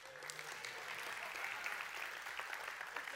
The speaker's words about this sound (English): But I realized it made him really feel self-conscious when everybody claps. Would you clap for his birthday again?